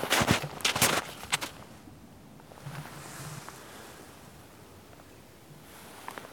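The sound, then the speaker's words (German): A few careful footsteps crunch as two people climb cautiously in the cold, walking a few steps, then standing still to listen, leaving a long quiet stretch of faint wind before one more step sounds near the end. “Vorsichtig steigen wir voran. Martin voraus, ich hinterher. Ein paar Schritte gehen, stillstehen, horchen.”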